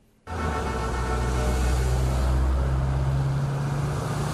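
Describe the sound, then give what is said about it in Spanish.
Steady, loud rumble of car engines and road traffic starting abruptly after a brief quiet moment, with low engine drones persisting throughout and no voices: over 200 classic and antique cars driving along the Malecón avenue in Havana, Cuba, during a competition. “Más de 200 coches clásicos y antiguos tomaron la famosa avenida del Malecón de La Habana en una colorida competencia que mostró el patrimonio automovilístico de la isla.”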